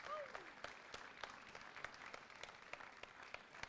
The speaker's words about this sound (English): Why don't you give her and these guys a round of applause. Get on there.